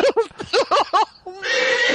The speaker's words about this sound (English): Oh, there it is. There it is. It's a horse screaming out in pain.